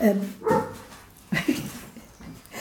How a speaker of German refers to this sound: Der Hund bellt. Der interessiert sich auch dafür.